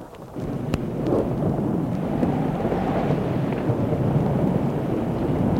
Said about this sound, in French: Durant leur promenade, ils sont pris par l'orage. Un orage violent, comme on en voit en montagne.